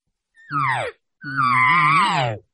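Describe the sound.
Two imitated cow elk contact calls (contact buzz), made while calling elk: a short, falling, nasal mew, then a longer, steadier, wavering one. Both are fairly loud and reedy, separated by a brief silence, with no talking.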